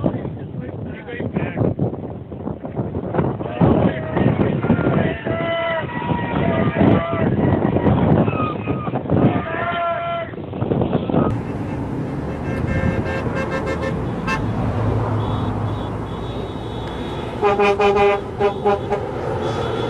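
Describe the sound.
Several vehicle horns toot repeatedly over a steady rumble of engines and wind, with indistinct crowd voices mixed in, as a convoy of BLM vehicles with a police escort and contractors begins to move off together.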